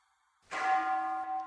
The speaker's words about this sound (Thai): ฟังเสียงระฆัง